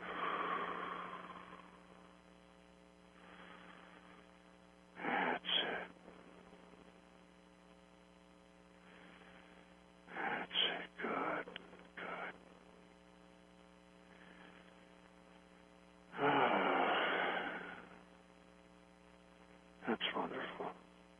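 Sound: deep breathing exercise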